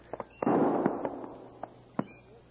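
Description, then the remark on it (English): A gunshot: a sharp, loud crack followed by a long rolling rumble that fades over about a second, with several smaller sharp pops scattered before and after. No voices. “No, he said he'd shoot 3 shots if he found Brown first.”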